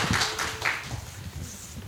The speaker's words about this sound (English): I don't know, that applause didn't sound, I mean. thank you. We need a tambourine and thank you.